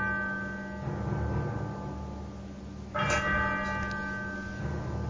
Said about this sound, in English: As the clock strikes 13, it's Monday, the 8th of December, year of our Lord, 2025.